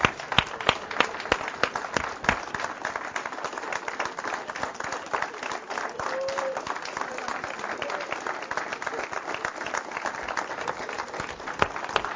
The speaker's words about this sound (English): Let's give our moms a round of applause. Let's just give them a big round of applause. And you can stand up and do so if you want to. But let's just give our mothers a big round of applause.